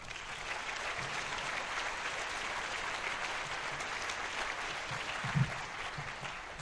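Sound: round of applause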